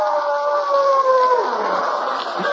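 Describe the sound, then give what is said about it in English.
A long, sustained wolf howl rises steadily and then slides downward in pitch, carrying clearly over a faint background hiss with no voices present. “That one doesn't sound like he just finished eating at Lindy's, does he?”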